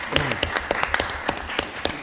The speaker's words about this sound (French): Je remercie sa modestie du sans souffrir, les gens qui l'applaudissent.